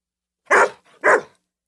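Two sharp barks from Harvey the Hungry Dog in quick succession, loud, separated by a brief soft breath, with silence before and after, as he dances in a twisting little circle waiting for his morning cereal.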